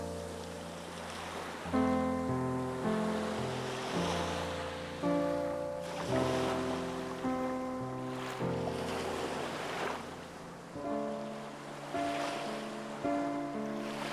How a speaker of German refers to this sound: Es liegt ganz still vor mir und ich sehe nur ganz leichte, kräuselnde Bewegungen des Wassers.